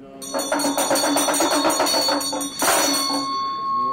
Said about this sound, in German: Ein Mönch in dunkelroter Robe rezitiert aus einem religiösen Buch. Mit der einen Hand lässt er eine Glocke ertönen, mit der anderen schlägt er eine kleine Trommel.